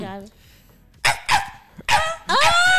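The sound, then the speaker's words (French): A person imitates a small dog with four high, strained yaps in quick, uneven succession, fairly loud, with the last yelp drawn out and whiny. “À la limite, je savais faire un moment le petit chien.”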